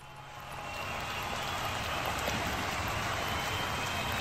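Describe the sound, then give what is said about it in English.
A crowd noise sound effect swells up over the first second, then holds as a dense, steady roar of indistinct cheering with no single voice standing out. “I'll turn on the crowd.”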